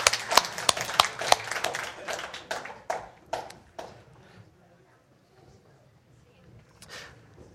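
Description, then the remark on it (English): A church audience bursts into clapping and cheering for the children being dismissed upstairs to Revolutions Kids Church, a dense flurry of sharp claps that thins out over a few seconds and fades to quiet with scattered murmurs. “So let's cheer them on as they go upstairs and learn a bit about Jesus.”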